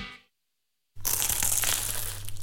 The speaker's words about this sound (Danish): Dette er lyden af dig, der tager en bid af Paris' lækreste croissant.